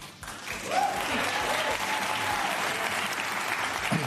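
audience applause

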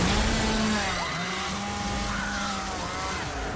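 chainsaw cutting wood

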